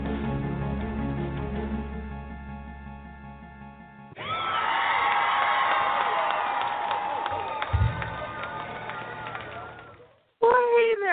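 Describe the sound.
A loud crowd bursts into applause and cheering with whoops as the host of a beauty show is introduced. It is a sustained roar lasting several seconds after a brief musical intro, then cuts off as a voice begins speaking.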